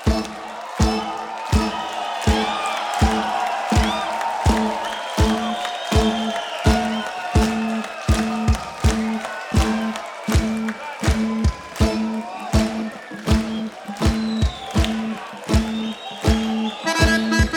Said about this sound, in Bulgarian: Дорогие друзья, под ваши бурные аплодисменты на сцену выходит...